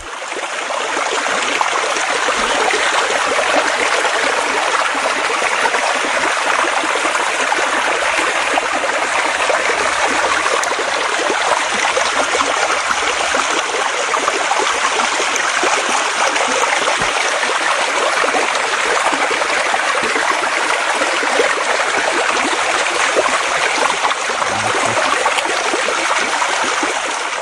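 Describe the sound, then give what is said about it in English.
A steady rush of running water, like a stream flowing over rocks, constant and fairly loud for the whole stretch with no voices. “Oh, and I think we've got a clip of some water.”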